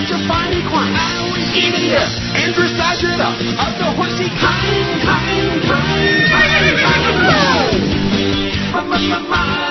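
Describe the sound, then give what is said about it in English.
Loud, drawn-out whinnying from Rafalka the horse fills the whole stretch, with repeated shrill rising and falling neighs running together and no talking. “Loser horse, loser horse.”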